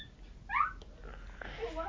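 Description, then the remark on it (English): A dog whimpers: one short, high, rising-then-falling whine, followed by softer, fainter whining sounds against a quiet indoor background. “Sound like the dog.”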